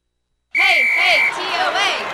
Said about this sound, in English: What's that about? Oh, the TOA cheer. TOA? You know, Tennessee Orthopedic Alliance. Why are they cheering for them?